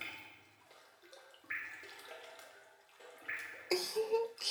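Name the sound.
shower water running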